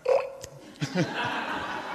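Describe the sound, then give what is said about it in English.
A person imitates a pig into a microphone with a short, throaty grunting snort, followed by rougher guttural noises and a buzzy, sustained vocal rasp. “Pig, brilliant, fantastic, well done.”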